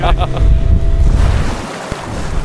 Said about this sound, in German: Und jetzt sind wir hier schon draußen auf der Nordsee, richtig? Ja, genau. Das ging schnell. Ich glaube, so schnell bin ich noch nie mit einem Boot gefahren.